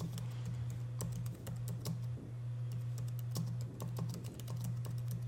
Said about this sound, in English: I don't know if you can hear that typing, but I'm looking. Yes, I can hear the typing.